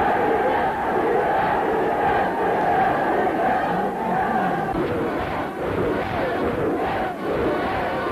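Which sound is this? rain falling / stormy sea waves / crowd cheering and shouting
crowd cheering and shouting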